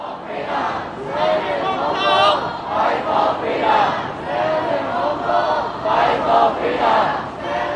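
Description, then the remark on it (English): A large crowd of protesters in Hong Kong chants in unison, many voices rising and falling together in a steady, repeated rhythmic phrase, loud and continuous throughout. “Those are the words of protesters there.”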